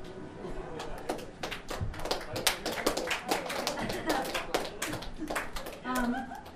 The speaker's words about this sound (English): Thank you for whoever clapped.